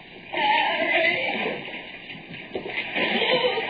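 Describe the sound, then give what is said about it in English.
Water sloshes and churns steadily throughout in a flooded tunnel, a dense wash of splashing movement with small surges and no clear pauses, heard on its own without talk. “And the water sucking hungrily at my legs.”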